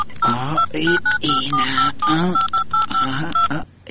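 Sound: telephone number being dialed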